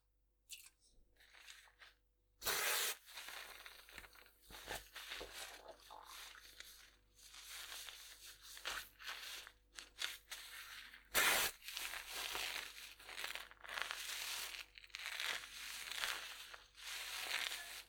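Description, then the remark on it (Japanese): Crisp fizzing and crackling of carbonated shampoo poured onto a head of hair, a dense popping hiss that swells and fades, with two brief bursts of spray near the start and midway; no voices. “君の頭に炭酸シャンプーをかけちゃうね。ちょっとパチパチするけど、 びっくりしないようにね。”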